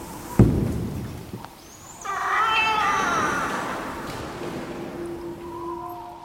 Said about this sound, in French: un faucon, dont les plaintes stridentes nous parviennent parfois des hauteurs sombres de l'église abbatiale